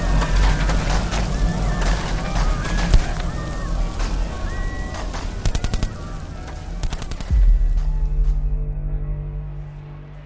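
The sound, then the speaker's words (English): A chaotic battle soundscape of rattling gunfire bursts and sharp shots over a constant din, with a heavy explosion late on that leaves a deep, rumbling tail. “It sounds like they're having a rough time out there. There's a lot of explosions happening.”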